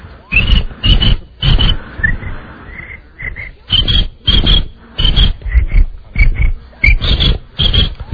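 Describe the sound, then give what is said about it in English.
A voice imitates a cricket on top of a bag with a rapid series of short, raspy chirping bursts, about a dozen in a steady rhythm, loud, with a brief softer, muffled stretch in the middle as the cricket jumps down and is covered by the bag. “This is the cricket on top of the bag, uh-huh. And he jumps down, and then he gets covered by the bag.”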